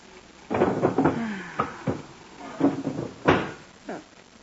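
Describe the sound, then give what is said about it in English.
The empty bottom drawer of a wooden bureau slides open and is pushed shut as a clock is put away inside, giving a few scraping rumbles and soft knocks spread over several seconds, with no voices. “Put it in the bottom drawer of the bureau.”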